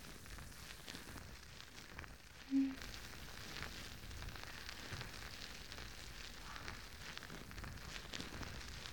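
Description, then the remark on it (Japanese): Wet foam squishes and fizzes in a steady, crackling stream of tiny bubbling pops as fingers lightly massage foam over the ears and earlobes to clean them, broad and soft throughout, with one brief low blip partway through and no voices. “こうして指で耳や耳たぶを軽く揉んでいくと、泡で汚れが落ちてすっきりしますよね。”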